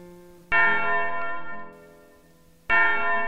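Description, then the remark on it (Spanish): A big church bell tolls twice as a fire alarm for a fire in the hills, about two seconds apart, each heavy, loud strike ringing out with a rich metallic hum that slowly fades before the next blow. “La campana gorda. Tres. Cuatro toques. Fuego.”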